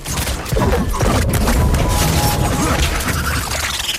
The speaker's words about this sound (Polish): Wybuchnie! Niech wybucha.